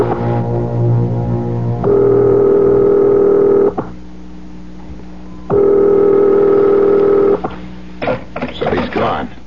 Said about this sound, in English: Dial. I'll call his private number.